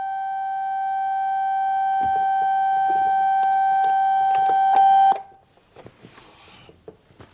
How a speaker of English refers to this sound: He lifts his head and reaches for the alarm.